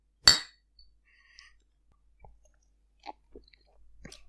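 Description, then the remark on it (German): One sharp clink of glasses in a toast rings out at the start, followed by quiet scattered clicks and soft handling noises, with no one speaking. “Prost, Hannes. Prösterchen.”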